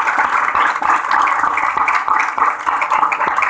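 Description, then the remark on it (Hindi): A crowd applauds for the children, many hands clapping in a dense, continuous patter that stays loud and even throughout, with no voices breaking through. “हाँ और बोलो, आपकी बात खाली मेरे बच्चों के लिए तालियां बजाओ।”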